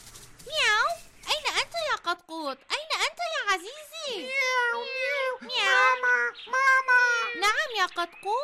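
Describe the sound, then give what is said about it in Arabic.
A voice imitates a cat meowing, with a rapid series of drawn-out, wavering meows, fairly loud and nearly continuous for several seconds. “مياو مياو.”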